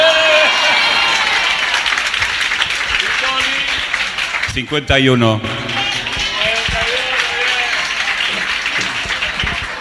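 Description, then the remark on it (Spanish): Sustained applause from a sizable audience fills the whole stretch, loud and dense, with a voice briefly calling out over the clapping partway through. “Pues a mí no os queda más remedio que aplaudirme un poco más que a mí, que porque él tiene 50 y yo 51.”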